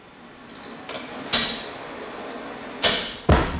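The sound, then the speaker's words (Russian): A few dull knocks on metal from inside a safe, about four irregular thumps, the last ones louder, over a steady background hiss with no talking. “Внутри сейфа что-то стучит.”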